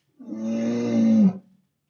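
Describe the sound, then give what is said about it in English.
A bear growls once in a deep, drawn-out roar lasting about a second, loud, steady in pitch before cutting off abruptly. “The type of animal that makes that noise is a bear.”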